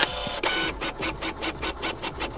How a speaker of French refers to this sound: d'une imprimante en souffrance juste avant un rendu, imaginez le même bruit, mais en 1469.